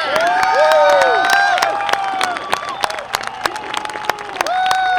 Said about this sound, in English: Well, the crowd went wild, of course, and well, they should have. And not just the crowd down at JPL, where I was here in Northern California. People just went nuts. Touchdown confirmed. We're safe.